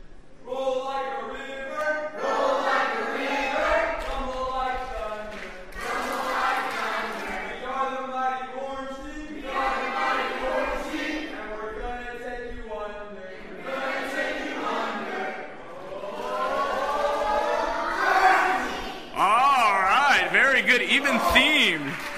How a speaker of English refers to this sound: All right, stand up, orange team. They're going to do a cheer with you. This is your first team cheer. Here we go. See if we can hear you better than we could hear the green team.